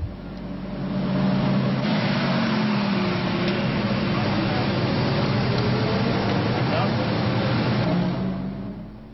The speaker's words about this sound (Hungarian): Délelőtt a budapesti Hősök terétől az Andrássy úton át a Lánchídig, majd onnan Budára vonult 40 Ferrari autócsoda.